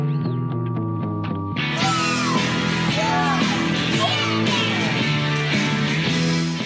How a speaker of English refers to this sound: If you listen close, you can hear kids screaming.